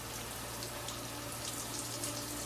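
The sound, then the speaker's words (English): Steady shower spray hisses continuously as a man showers, a dense, even wash of falling water drumming with no pauses or voices. “With her clothes on, she steps into the shower and wraps her arms around him from behind.”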